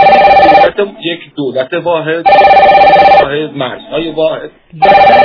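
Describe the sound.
A telephone rings for an incoming listener call to a radio talk show in loud, steady bursts, three rings separated by pauses in which a man talks.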